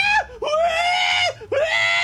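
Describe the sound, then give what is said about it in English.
A person imitates a pig call: three loud, shrill, squealing cries, a short one followed by two long sustained ones, each swooping up in pitch at the start. “Surprisingly, that was not a bad pig call.”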